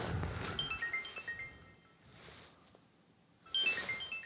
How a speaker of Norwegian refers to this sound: Og nå ringer telefonen. Ja, da tar vi det på lufta.